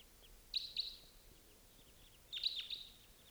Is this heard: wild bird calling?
yes